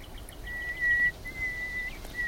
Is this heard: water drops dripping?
no